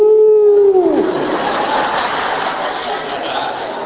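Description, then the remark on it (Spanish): A person imitates a coyote's howl: one loud, sustained, tonal note held for about a second before sliding downward and breaking off, followed by a steady wash of noisy, breathy sound. “Si cambia en coyote, aullando.”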